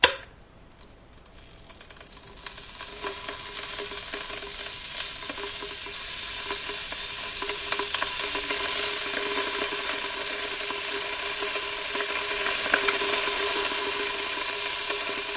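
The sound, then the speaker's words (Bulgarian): Water heating in a modern electric kettle: a steady, sizzling hiss that swells after a quiet start and builds into a dense, crackling rush, with faint ticks scattered through it. No voices. “Ето ви звук от това, което се случва в една от тези модерни кани, дето сутрин ни стоплят душата.”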